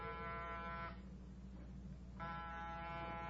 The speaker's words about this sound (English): Get off the buzzer.